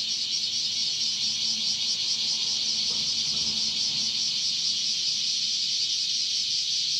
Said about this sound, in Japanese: 朝は朝でねもうここ最近僕もこの音で目が覚めるんですよ。起こされます、セミさん、セミたち。